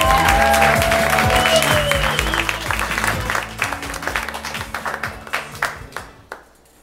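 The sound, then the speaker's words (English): An audience at a live storytelling show in Los Angeles applauds a storyteller, loudly at first, a dense wash of clapping that gradually thins out into scattered individual claps before fading away over several seconds. “Applause, applause.”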